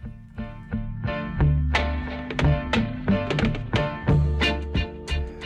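Rapid, uneven flicks of a beer can's metal ring-pull, each a sharp tinny click with a brief metallic ring, repeating for several seconds over a low humming resonance, with no voices.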